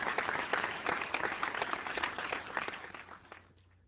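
A burst of applause: many hands clapping in a dense, steady patter for several seconds, then thinning out and fading away at the end, with no talking.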